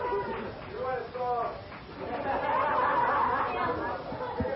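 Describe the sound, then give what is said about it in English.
A steady murmur of crowd chatter, many overlapping voices blending into a continuous hubbub with a few louder voices rising above it, holding at a fairly even level throughout. “Listen to this crowd.”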